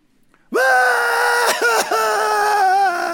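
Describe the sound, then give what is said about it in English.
A person lets out a loud, sustained scream lasting nearly three seconds, with a couple of brief catches for breath, with no talking. “Now, you could run in circles screaming.”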